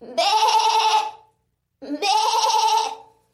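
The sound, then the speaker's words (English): A person imitates a goat with two drawn-out, wavering bleats, each about a second long with a short pause between, loud with no other sounds, playing the goat's role in a group singing of Chad Gadya. “And let's just say I'm glad to have been assigned the goat and not the butcher.”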